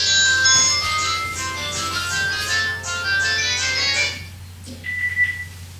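A phone rings with a bright, melodic electronic ringtone that plays steadily for about four seconds and then cuts off, leaving a faint tone and low background hum.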